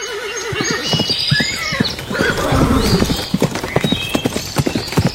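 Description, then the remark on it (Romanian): A horse whinnies with a wavering cry, then hooves clip-clop in a quick, steady rhythm, fairly loud, as a rider sets off at a gallop, with a second neigh rising over the galloping beat. “Așa că fiul cel mare își lua cel mai bun cal și plecă în galop.”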